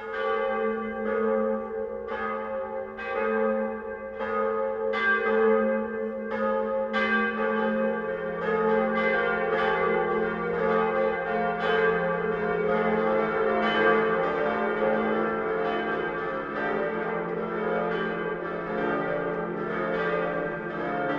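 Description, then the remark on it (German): Noon church bells of St. Peter's parish church in Munich, Germany, peal continuously with a deep, booming low bell (Munich's deepest-toned bell, with an F0 tone) beneath brighter overlapping strikes, a rich resonant wash that swells and sustains, with no talking. “Das Mittagsläuten kommt heute von der Kirche, die als erste in der Geschichte Münchens erwähnt ist, von der Pfarrkirche St. Peter.”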